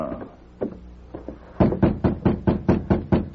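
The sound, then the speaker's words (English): A few soft taps on the door of a railroad track walker's cabin, then a steady run of about nine loud, hollow knocks in quick even rhythm, with no voices. “He may not answer a rap.”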